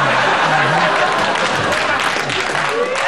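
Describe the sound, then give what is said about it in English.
A studio audience bursts into loud, sustained applause, a dense steady roar of clapping with some cheering voices mixed in, holding at full strength for about three seconds. “Yes, hold the applause.”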